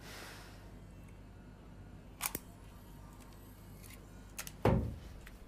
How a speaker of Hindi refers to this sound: क्या करना चाह रहे हो? कुछ नहीं, बस उसके अंदर से कैसेट निकाल रहा हूँ, अगर उसमें पड़ी रहेगी तो खराब हो जाएगी। मैंने निकाल दिए, ये लो देखो।